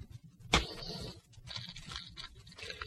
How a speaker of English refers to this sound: This is what I came to do. Here are the negatives and the other photographs. Watch them burn.